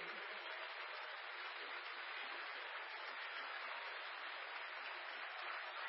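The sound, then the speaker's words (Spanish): Steady, dense audience applause for the performers, a continuous wash of many hands clapping at an even, fairly loud level without pauses or voices. “Solamente aplausos para ellos.”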